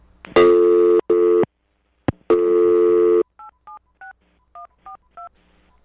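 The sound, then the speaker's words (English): Loud, buzzy telephone busy tones sound in long on-off bursts as the phone is picked up, then a quick series of about eight short, clean touch-tone dialing beeps follows, clear with no talking. “So now when I pick up the phone.”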